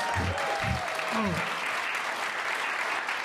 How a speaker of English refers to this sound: Can we have another round of applause for that guitar part?